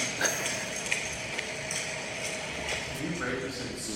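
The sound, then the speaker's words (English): A steady, droning air conditioner hum fills the space, with a Japanese woman's voice talking faintly and indistinctly somewhere behind it, plus a few soft knocks and taps. “but I'm really puzzled as to, like, what use there would be for air conditioner with Japanese woman talking faintly behind it.”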